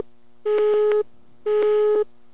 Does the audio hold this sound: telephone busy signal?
yes